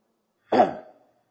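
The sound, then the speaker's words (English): A single short, fairly loud cough from a person who is preaching, with a sharp onset that trails off quickly into silence. No one speaks. “and probably why I cough a lot when I'm preaching.”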